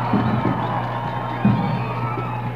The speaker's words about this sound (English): A large and vocal crowd, one of the largest crowds of the year for a Dixie College ball game.